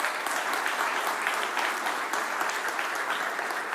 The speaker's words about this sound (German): Vielleicht mal einen Applaus auch an die.